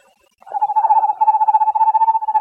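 An eastern screech owl in eastern Montana gives a steady, monotone trill, a fast run of soft pulses on one pitch that starts after a brief silence and carries on clearly and alone to the end.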